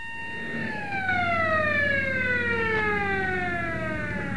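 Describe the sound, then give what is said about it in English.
An ambulance's siren, a white flag with a red cross on its bonnet, wails in a steady, loud tone that slides gradually downward in pitch as it races down a street past buildings covered in billboards and signs, over a low rumble of engine and road noise. “A white flag bearing a red cross flaps rapidly on the bonnet of the vehicle as it races down the street.”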